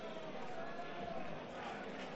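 A steady, hushed wash of football stadium ambience at Balaídos during Celta versus Las Palmas, Celta leading 3-0 in the second half: a diffuse crowd murmur with faint indistinct voices, holding a constant low level throughout without cheers or distinct calls.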